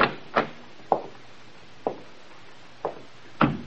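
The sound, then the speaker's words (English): A library door being opened: a series of six sharp wooden clunks and rattles at uneven intervals, moderately loud, with no voices over them. “This must be the library. Try the door”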